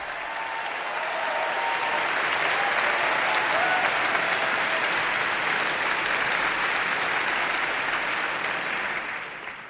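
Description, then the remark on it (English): A large crowd at the New Yorker Festival in October 2019 bursts into sustained, dense applause welcoming Terry Gross, swelling quickly and holding steady for several seconds, a continuous roar of clapping that tapers slightly at the end. “Terry Gross joined me in October 2019 at the New Yorker Festival, where the crowd welcomed her like a rock star.”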